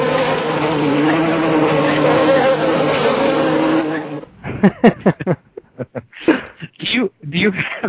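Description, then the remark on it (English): A dense, steady swarm of killer bees buzzes loudly for about four seconds during killer bee season in the Northwoods, then cuts off as a person starts talking in short bursts. “Remember, this is killer bee season in the Northwoods, so don't provoke any flying yellow things.”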